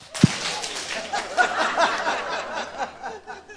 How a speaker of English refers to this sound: So in all this showing of appreciation, why don't we give them a round of applause? The seal of approval. And a big clap.